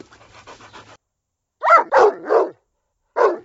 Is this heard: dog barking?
yes